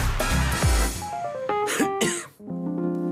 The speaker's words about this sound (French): Cette petite toux traduit la présence